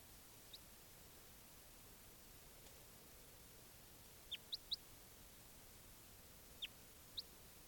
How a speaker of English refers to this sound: There's birds there.